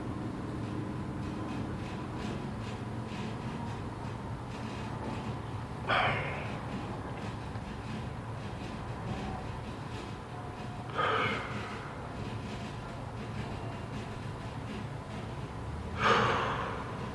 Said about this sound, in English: continues breathing deeply and closes his eyes.